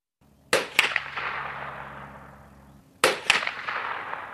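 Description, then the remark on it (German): Two sharp hunting rifle shots about two and a half seconds apart echo through fog-covered hills. Each is followed by a long echoing rumble that fades away into wet undergrowth, with a low steady hum underneath. “Schüsse aus einem Jagdgewehr hallen durch die nebelverhangenen Hügel und ihr Echo verliert sich im nassen Unterholz.”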